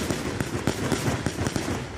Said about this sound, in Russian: Резиновые пули, дубинки, звуки выстрелов и взрывов снова сотрясли улицы Минска.